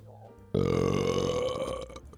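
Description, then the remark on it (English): A single long, loud burp that bursts in abruptly and rumbles for over a second before trailing off. “I have a burp that's really trying to make its way up.”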